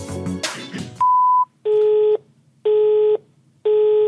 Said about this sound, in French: La personne que vous essayez de joindre n'est pas disponible. Vous pourrez envoyer un message après le bip sonore.